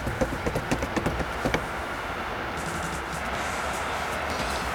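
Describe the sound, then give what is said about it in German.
A quick run of about ten light tapping steps, imitated by hand or mouth, patters briskly for a moment, then stops, leaving the steady low rumble of a passing train in the background. “Warte, ich mache Tapperschritte.”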